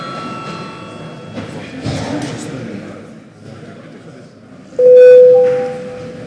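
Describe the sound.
The Saeima (Latvian parliament) session bell sounds a loud, steady, sustained electronic ring over a murmur of voices, after fainter tonal chimes early on, rung at a break in debate before the registration of deputies' attendance.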